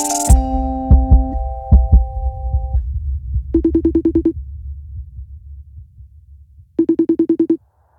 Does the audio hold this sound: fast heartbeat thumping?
yes